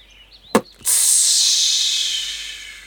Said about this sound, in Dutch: Klinkt het opeens. De ballon is niet goed dichtgeknoopt. Er loopt lucht uit. De ballon schiet door de lucht op en neer en heen en weer.